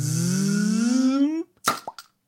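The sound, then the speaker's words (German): A cork squeaks with a steadily rising creak as it works loose, then bursts from the bottle with a sharp pop, followed by a couple of quick softer knocks. No one speaks. “Nils mal hier den Korken rausgeschossen”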